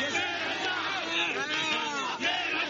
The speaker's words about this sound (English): President Mahinda Rajapaksa stepped off his aircraft on his return from Jordan to the cheers of supporters who hailed him as a national hero.